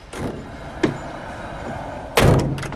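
Van back doors swing shut: a short knock-like clunk, then a louder, heavier slam with a metallic rattle, with no talking.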